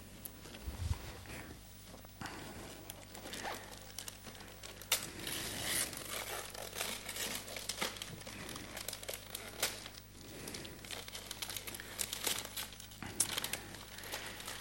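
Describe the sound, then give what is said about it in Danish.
Gift wrapping paper crinkles and crumples continuously for several seconds, with occasional sharper tearing rustles, fairly loud, as a wrapped gift is unwrapped by hand. “Nej, man skal pakke gaven op og se, hvad der er inde i.”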